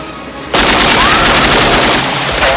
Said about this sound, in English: Quaid and Melina shoot back. Bullet holes rip into Helm's windshield.